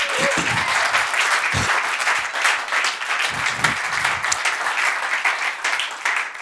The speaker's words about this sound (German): Wir wollen auch einen Dank und ein Klatschen geben an die Techniker, die sich stundenlang investiert haben, damit ihr 12 zu Hause heute dabei sein könnt. Komm, wir klatschen mal für dich.